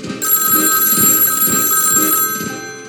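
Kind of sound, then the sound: signal or alarm, telephone bell ringing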